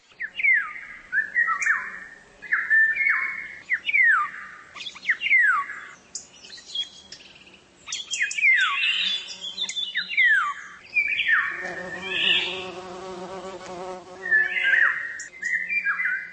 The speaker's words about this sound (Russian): записать там в тишине новые птичьи голоса, которые в городах отчаянно пытаются пробиться к людям сквозь шум автомобилей и бывают слышны здесь только совсем ранним утром.